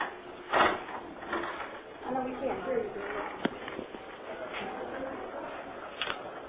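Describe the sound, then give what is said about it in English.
A door is pushed shut with a few brief knocks and thuds against a murmur of room noise and indistinct voices, the sharpest clunk landing near the end. “I think shut the door.”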